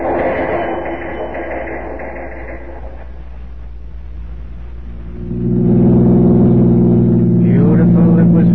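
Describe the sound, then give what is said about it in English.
A car drives along steadily, its low engine rumble filling the scene, swelling louder and more droning about halfway through as the motor works harder. “We're not 10 minutes away yet. We've got a long way to go before we're out of trouble.”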